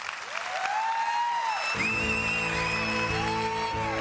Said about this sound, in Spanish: Marc Márquez, que ayer se cayó, ganó Dovizioso, 13 caídas en la carrera de MotoGP, se llevó esta ovación cuando por la noche le daban el galardón de campeón del mundo.